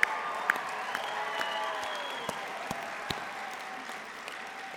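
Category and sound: crowd, round of applause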